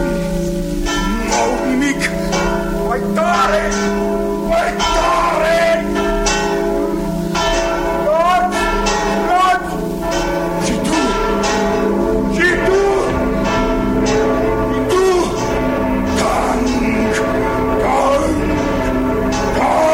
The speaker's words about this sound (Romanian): Clopotele sunau. Pe chipul lui Quasimodo strălucea bucuria. Agățat de frânghiile lor, clopotarul le vorbea, le mângâia